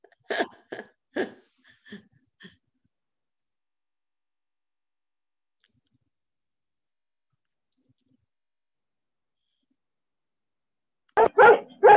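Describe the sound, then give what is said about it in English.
A dog barking at another dog lets out a quick burst of four or five sharp yaps, fades off, and after a long silence lets out another loud flurry of barks. “Dog sees another dog.”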